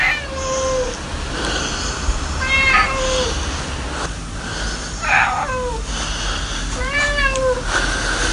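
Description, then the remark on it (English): A cat named Jules meows repeatedly, about four or five drawn-out, wavering cries spaced a second or two apart, clear over a low background rumble, with no talking. “What are you saying? Really? I thought you'd think my idea of doing a podcast about cats would be a good one.”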